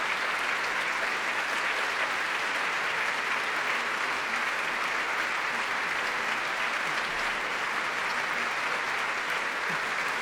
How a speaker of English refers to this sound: Each antiphonal choir of London Brass taking a separate bow, being applauded from front by the audience and from behind by the ranks of the London Symphony, the BBC Symphony Chorus.